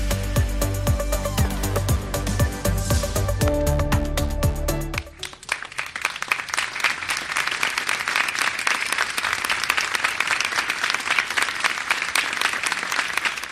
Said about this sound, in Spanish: Escuchas de fondo los aplausos tras el minuto de silencio por los fallecidos, los heridos y las personas afectadas por el herido de Valencia. Ese minuto de silencio tenía lugar ante las puertas del Ayuntamiento de Albacete hace unos minutitos,